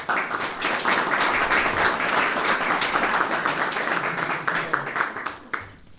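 A crowd applauds steadily for about five seconds, a dense wash of many hands clapping at an even level before it tapers off at the end.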